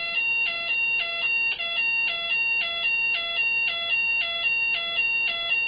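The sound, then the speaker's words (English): A loud electronic fire alarm blares continuously during a fire alarm system check, cycling through a rapid, repeating two-tone pattern of high-pitched beeps roughly twice per second, with no voices. “Alright, doing the fire alarm check over here right now.”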